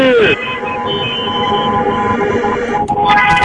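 Many car horns in Piața Unirii in the capital blare together on a countdown signal, trying to be louder than South African vuvuzelas: one long, loud, continuous chorus of steady, overlapping tones, with a brief dip near the end before the honking swells again.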